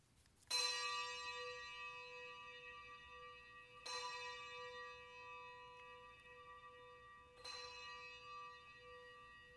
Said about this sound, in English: Let us ring the bells of grief.